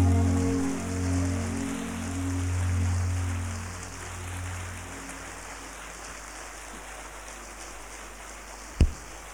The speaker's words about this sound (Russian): Ребята, спасибо вам большое. Эти аплодисменты Майку.